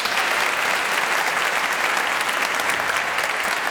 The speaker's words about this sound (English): it's my great pleasure to present the second of this year's BBC Proms Plus Storytime events. You can give yourselves a round of applause.